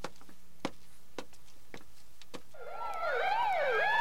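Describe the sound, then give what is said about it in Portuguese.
A police siren starts up after a few sharp clicks, rising and then wailing in a fast warbling pattern, loud, with no one speaking. “A polícia, enche esse barco rápido.”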